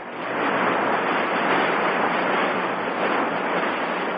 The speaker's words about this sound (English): Some of Jupiter's radio signals last 1 or 2 seconds and sound like waves crashing on a beach.